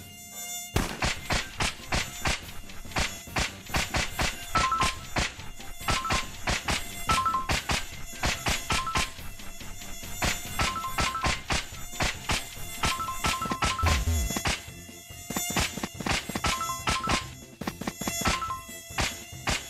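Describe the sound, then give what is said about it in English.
A loud, continuous whine of mosquitoes buzzing in a top-down video game where the player hunts and kills mosquitoes in corridors, layered with frequent sharp tapping hits and brief tonal game beeps, with no one talking. “Browse the corridors in order to kill a maximum of mosquitoes.”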